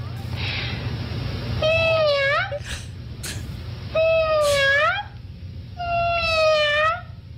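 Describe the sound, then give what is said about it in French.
A human voice imitates a cat, giving three drawn-out, rising-and-falling meows in a row, clear, with a low steady hum underneath. “Je vais miauler comme une chatte.”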